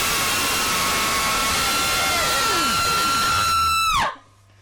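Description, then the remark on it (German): Several performers let out one long, loud, sustained scream together, performing 'Der Schrei' (The Scream) by Edvard Munk, holding a steady pitch for about four seconds before it breaks off abruptly with a falling slide into near silence. “Das war der Schrei von Edvard Munk.”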